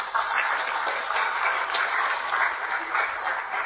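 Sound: audience applause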